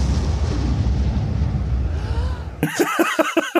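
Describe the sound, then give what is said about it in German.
A loud, rumbling explosion roars for a couple of seconds, its low booming noise filling the sound, then cuts off abruptly as a voice starts talking. “Where's the explosion?”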